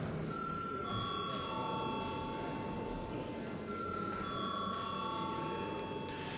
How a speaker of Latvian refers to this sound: Aicinam balsot par pieņemšanu otrajā lasījumā. Paldies, lūdzu zvanu.